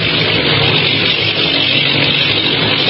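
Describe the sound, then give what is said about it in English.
The engines of ten bombing planes drone steadily overhead, a loud, unbroken mechanical roar that holds its level for the whole stretch with no voices over it. “10 bombing planes, eh?”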